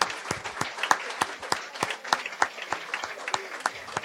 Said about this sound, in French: Et je voudrais qu'on l'applaudisse pour la soirée qui nous fait passer.